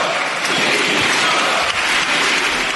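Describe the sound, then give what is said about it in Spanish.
Loud, dense applause from members of the Socialist Party and Podemos in the Spanish parliament fills the whole stretch, steady and continuous, mixed with final shouts, with no clear speech rising above it. “Bueno, dimisión, esos gritos finales mezclados con los aplausos de los miembros del Partido Socialista y de Podemos, ¿no?”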